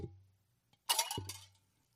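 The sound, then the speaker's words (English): A small mixer ball drops into a cup of 16 ounces of water for a strawberry kiwi drink mix, making a bright splashy plunk with a brief clinking rattle that fades within half a second, followed by a short knock at the end. “So the mixer ball is in.”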